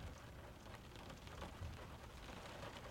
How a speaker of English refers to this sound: You remember the first time we came to this cafe? Yeah, it was raining back then. Just like it's raining now. The footsteps, the conversations, the cars in the city. They were all put on mute by the rain.